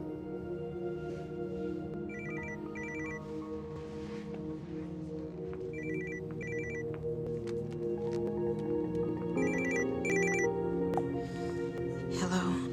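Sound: telephone ringing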